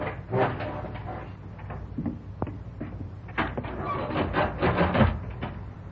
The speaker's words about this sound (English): We have to yank this door open, don't we?